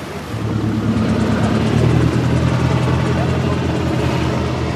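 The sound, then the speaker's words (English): A helicopter hovers in the sky over the village of Isle in Puntland, Somalia, its steady low engine rumble and droning tones filling the scene loudly and continuously under a broad wash of noise. “A helicopter is hovering in the sky.”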